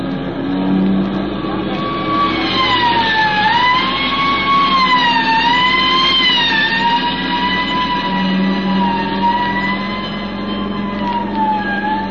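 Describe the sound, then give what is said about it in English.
Police sirens wail continuously, rising and falling in pitch over steady engine and traffic noise, loud throughout, from three fast police cars chasing a bandit car through traffic toward open country. “One, two, three fast police cars try to close up the distance between them.”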